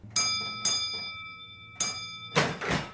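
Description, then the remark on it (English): A bell is struck three times, two quick rings followed by a third after a pause, each leaving a bright sustained tone, then a short burst of rattling noise at the end. “Let's answer this bell.”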